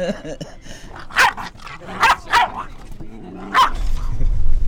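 dog barking

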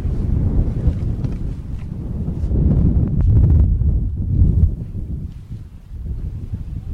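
strong wind

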